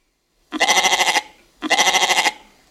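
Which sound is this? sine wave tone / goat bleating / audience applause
goat bleating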